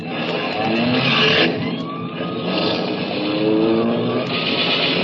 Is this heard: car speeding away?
yes